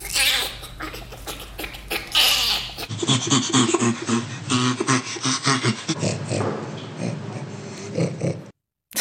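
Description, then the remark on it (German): Ape laughter from a chimpanzee, then a bonobo, then an orangutan: breathy, raspy panting bursts, then a run of low, rhythmic grunting pulses (the orangutan's laughter) that sound almost like snorts, fairly loud with no talking. “Ja, ist aber tatsächlich das Lachen eines Orang-Utans. Vorher haben wir noch einen Schimpansen und auch einen Bonobo gehört.”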